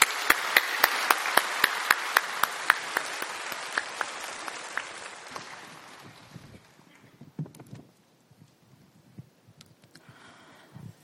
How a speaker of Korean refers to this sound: 나오셔서 우리 간증하실 때 우리 나오실 때 박수로 맞이해 주시기 바랍니다.